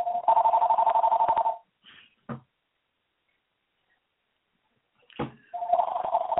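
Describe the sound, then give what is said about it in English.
A mobile phone that could not be turned off rings during a show with a warbling, trilling tone in two bursts, separated by a few seconds of near silence broken by brief clicks and thumps. “As you can see, I can't turn my phone off. It's ringing in the midst of me doing my show right now.”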